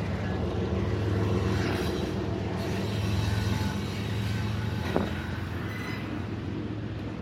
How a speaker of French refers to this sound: Alors, je m'excuse pour le bruit, je passe à côté d'un train. Mais si que les trains, ça fait du bruit.